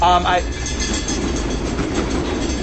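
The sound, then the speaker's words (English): A train, the 12:30 flyer, rumbles through to the living room with a steady, loud roar and faint rhythmic clatter, opening with a brief bright tonal burst before settling into an even rolling noise. “Sorry, that's the 12:30 flyer going to the living room.”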